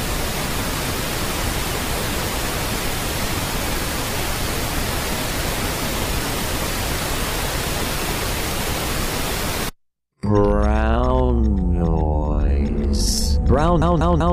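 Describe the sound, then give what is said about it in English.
A steady, loud wash of pink noise, a soft rushing hiss, fills nearly ten seconds, then cuts off abruptly; after a brief silence a person begins speaking. “This is what pink noise sounds like.”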